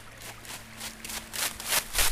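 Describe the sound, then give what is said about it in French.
A waterfall in the Eure valley flows in a continuous rushing hiss that swells and surges in uneven pulses, growing slightly louder toward the end, with a faint low hum underneath and no voices. “Et souvent, on entend des chants d'oiseaux, des chiens qui aboient et la cascade qui coule.”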